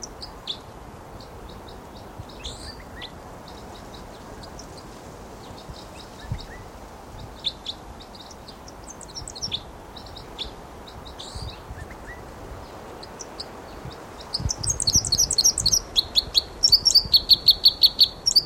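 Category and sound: bird, wild bird flight song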